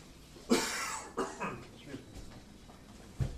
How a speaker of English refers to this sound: Yeah, I just didn't want to cough on you.